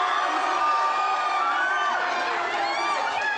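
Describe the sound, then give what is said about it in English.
A jubilant crowd cheers steadily, a dense wash of many overlapping voices shouting and whooping at a constant loud level with no pauses. “They all celebrate and embrace.”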